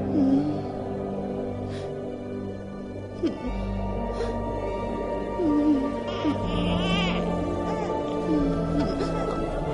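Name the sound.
infant crying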